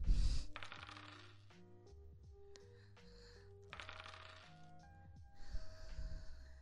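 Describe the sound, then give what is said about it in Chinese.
Dice rattle in a shaken cup during a dice guessing game where the loser drinks, in a few short bursts: a quick clatter at the start, another midway, and a longer shake near the end, over soft background music. “掷骰子，你应该会吧？”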